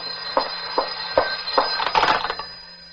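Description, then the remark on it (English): A telephone rings with a steady, shrill electric tone throughout, while soft thumps fall at an even pace, then bunch into a brief flurry of clatter before the ringing carries on alone. “The phone is driving me crazy. All right, answer it. I'll take the tape off. No, no, let it ring.”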